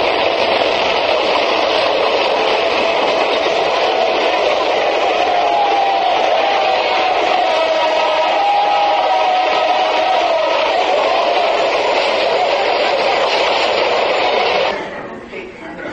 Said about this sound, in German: Der Zug noch einmal.